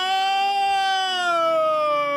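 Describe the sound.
A man's voice lets out a long, loud, sustained wail that slowly slides down in pitch, imitating a horrified scream so it sounds like a siren, with no other talk.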